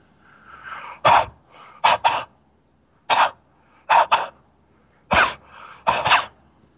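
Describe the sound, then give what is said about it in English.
A voice imitates a man's heavy, raspy breathing down someone's ear, three low breaths in three rounds. Each round is a loud, harsh exhale followed by a quick double huff, with softer breathy inhales between. “On another occasion, Leah's mother said she heard a man breathing down her ear. It was three low breaths. Something like this”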